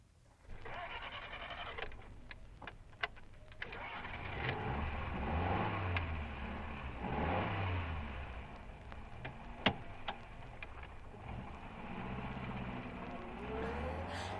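A car engine turns over and rumbles steadily, its pitch rising and falling as it revs and pulls away, with a few sharp clicks and rattles mixed in.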